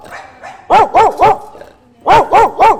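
A dog barks loudly in two quick bursts of three sharp barks each, separated by a short pause, with faint background noise in between.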